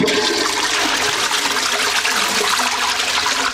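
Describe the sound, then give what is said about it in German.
A toilet in a house's guest toilet flushes loudly with rainwater, a steady rushing hiss of water that holds strong for a few seconds and tails off only slightly at the end. No one speaks. “Denn wenn fünf Personen des Hauses so zwei-, dreimal die Toilettenspülung betätigen, wir haben zwar hier diese Spartaste, das ist selbstverständlich, dann geht doch einiges an”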